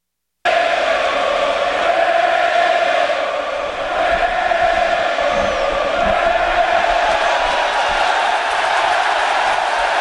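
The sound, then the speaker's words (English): A packed, standing-room-only stadium crowd roars and jeers at pitcher Johnny Cueto in a loud, unbroken wall of noise, with massed voices swelling and chanting steadily for the full ten seconds. “Well, this standing room only crowd trying to get under Johnny Cueto's skin, and they might be.”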